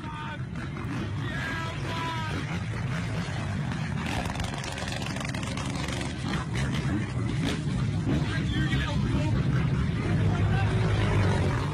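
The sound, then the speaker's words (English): Motorbike engines of youths on motorbikes attacking police in Croxteth roar and rev steadily for several seconds, loud, with muffled voices mixed into the noisy outdoor commotion. “If we take a quick look on YouTube and I type in simply Croxteth, underneath Ross Kemp's gang special is a link to a video taken just a few months ago of youths on motorbikes attacking police just a short distance from where Rhys was shot.”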